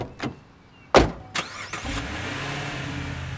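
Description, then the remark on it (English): Several sharp thuds, like car doors shutting, are followed by a car engine starting up and settling into a steady rumble as the vehicle begins to drive off toward Beloit. No one speaks. “We all hugged and said hi and all that, and we put her in the car and commenced to drive back to Beloit.”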